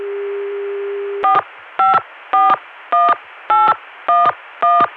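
A steady Connecticut CCSA telephone dial tone, reached via a Richmond PBX, gives way to seven crisp touch-tone beeps, evenly spaced about half a second apart, as a phone number is keyed in to go back to the Chicago dial tone. Clear, with no talking.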